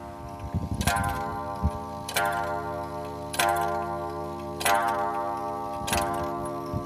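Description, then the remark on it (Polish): An antique Borussia wall clock, made in Lower Silesia and with all original parts, is made to strike by hand. It strikes five times at a slow, steady pace. Each chime rings out clearly and leaves a long, resonant hum that overlaps the next stroke. “Ja go może zmuszę do bicia.”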